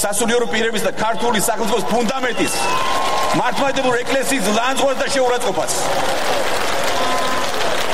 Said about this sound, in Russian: И в этот момент речь оратора утонула в бурных овациях участников митинга.